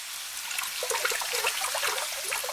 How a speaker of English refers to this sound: The sign Allah had promised appeared. The oven in Nu's own house, a simple clay oven, began to overflow with water, bubbling up from the ground like a fountain.